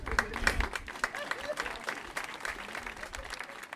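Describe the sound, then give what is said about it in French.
Steady audience applause at the premiere of a stand-up comedy night in Angers, many hands clapping in a dense, crackling wash with scattered voices mixed in, moderately loud throughout. “Et oui, vous l'avez entendu, les rires, les applaudissements et la buvette sont au slogan du 11-22.”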